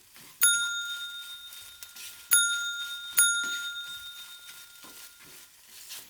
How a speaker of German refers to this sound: Da ertönte schrill die Klingel.